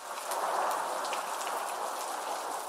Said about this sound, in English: Now, today, we talk about something found everywhere in the world. Rain.